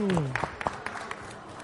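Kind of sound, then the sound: crowd, audience applause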